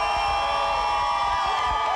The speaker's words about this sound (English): He just got up from his sled at this point, and everyone's cheering for him. There's a huge crowd out here.